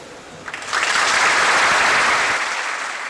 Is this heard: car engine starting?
no